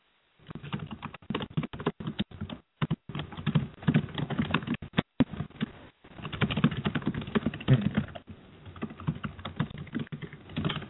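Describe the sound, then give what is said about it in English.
Rapid clattering keystrokes on a keyboard, steady, with a few brief pauses between bursts of typing and no voices. “Let's try to figure out for some people have louder keys than most.”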